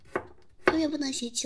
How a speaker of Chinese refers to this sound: 你切菜慢点儿，别受伤了。